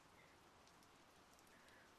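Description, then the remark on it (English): Heavy rain pours down steadily, a dense, even hiss of countless drops striking surfaces, with a few brighter patters standing out. No voices. “Look, it's raining. Clearly, the weather forecast isn't always right. It's really pouring.”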